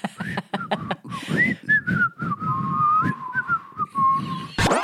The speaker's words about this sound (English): But I kind of like the idea of being on the stove. I just wonder how long it takes. And it whistles. Does that angry whistle? Is it a bad mood?